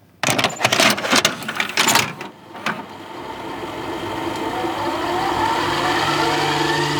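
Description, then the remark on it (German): Cassette number 4 is pushed into a deck with a burst of loud plastic clunks and clicks, then the mechanism starts and settles into a steady, low motor hum with faint tape hiss. “Hier ist die Kassette mit der Nummer 4 und sie hat den Titel Ein Schreckgespenst.”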